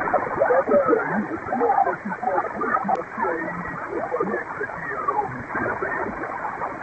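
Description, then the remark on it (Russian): Noisy ham radio reception during a round table of Tambov radio amateurs, with steady hiss and interference rated 9 points filling the band, a muffled, narrow-band voice breaking through the static for several seconds at a fairly even level. “Но у меня тут и так на 9 баллов помеха идет.”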